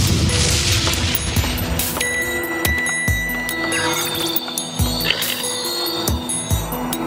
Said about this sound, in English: Something large and silver hurtled out of the sky and plowed into the desert with a bang.